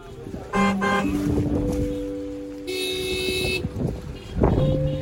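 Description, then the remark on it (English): In cold and rain, a waving crowd hoots horns at once to bid farewell to the ship James Clark Ross leaving on her voyage back to the UK: overlapping sustained tones of different pitches, some low and droning, others higher and brighter, with a busy background of crowd noise. “But despite the cold and rain, crowds of people turned out to wave and hoot horns to wish the James Clark Ross well on her long voyage back to the UK.”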